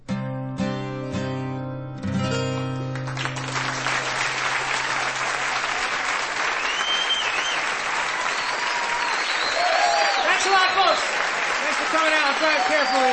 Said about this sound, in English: You haven't changed much, you still applaud.